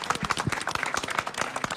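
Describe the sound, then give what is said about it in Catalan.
An audience applauds after a habanera performance, a dense, steady patter of many overlapping hand claps with crisp, bright hits that keep an even loudness throughout the short stretch, with no talking. “Aplaudeixi una mica.”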